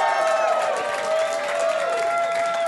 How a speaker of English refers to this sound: All right, let's bring up our first guest to talk about the trailer from the Blue Harvest podcast. Big round of applause for your buddy and mine.